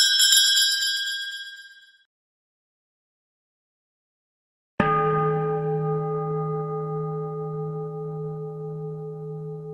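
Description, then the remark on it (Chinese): An electronic wind chime rings alone: a bright, high chime fades out, then after a few seconds of silence a fuller, lower chime strikes and keeps ringing steadily. “我这个有个很难找得到的电子风铃， ok? 你只要入住电他的呢，他就不断是这样跟你 拎。”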